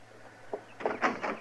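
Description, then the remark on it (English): Knocking on the wooden door of a house: one light tap followed by three heavier, evenly spaced knocks, with no voices. “There's no need for any more noise at my door.”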